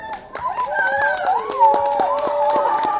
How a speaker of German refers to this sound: ach, da sehe ich ihn schon, Herr Salomon, kommen Sie doch mal raus. Applaus bitte.